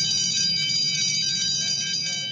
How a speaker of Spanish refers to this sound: Tocó el timbre.